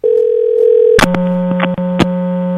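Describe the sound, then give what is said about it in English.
A steady phone tone cuts off with a sharp click as the line picks up, giving way to a loud buzzing hum broken by crackling static pops. No voices. “Oh, now we got static.”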